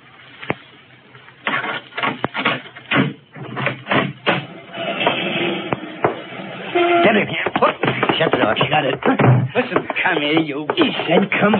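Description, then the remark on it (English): Heavy sledgehammer blows strike the last layer of a plaster wall in a series of sharp, irregular thuds, then give way to a dense rush of crumbling and clattering debris as the wall breaks through. “One good wallop with a sledgehammer, we're through.”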